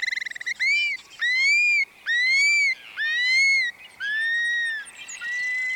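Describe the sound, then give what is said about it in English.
A prairie bird on its breeding grounds whistles five or six times in steady succession from the sky, each call a long, clear, slightly arching note, loud, with no talking. “And their whistles can be heard again, dropping from the sky.”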